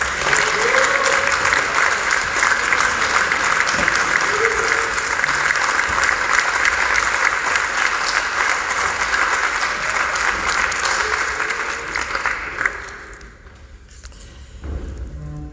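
An audience claps steadily, a dense wash of many hands sustained for about twelve seconds before tapering off quickly into near quiet.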